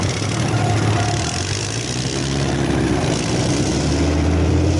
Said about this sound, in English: Yeah, you can hear the tanks coming. And they roar on in there. I mean, these tanks make a lot of noise. Yeah, you could hear a mile away, you know, when they're coming.